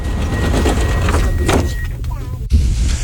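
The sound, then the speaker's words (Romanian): Metro train doors closing on the Drumul Taberei metro line: a steady low rumble carries a thin, high warning tone and airy hisses, then the doors shut with one sharp clunk as the train moves off. “Atenție, se închid ușile.”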